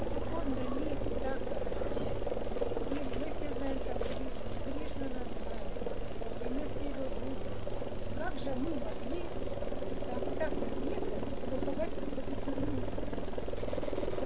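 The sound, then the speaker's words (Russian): An approaching helicopter's steady, heavy rotor and engine drone fills the scene at a constant, fairly loud level, with indistinct voices talking underneath the noise. “Громче, потому что вертолет приближается, нужно громче говорить, когда он приближается.”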